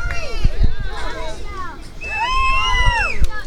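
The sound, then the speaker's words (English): A small crowd of family spectators cheers and shouts at a race of 11-year-olds, several overlapping voices rising and falling in pitch, fairly loud and continuous, with low gusty rumbles of wind underneath on a breezy day. “The family contingent is cheering.”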